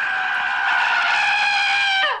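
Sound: scream sound effect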